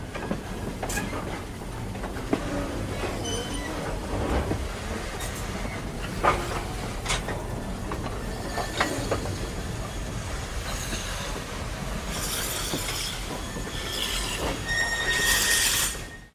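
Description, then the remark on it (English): A train rumbles along steadily with clanking wagons, then near the end bright squeals and a hiss of brakes rise as it slows to a halt at a level crossing west of Zibolizan. “All trains make a mandatory stop at the level crossing west of Zibolizan.”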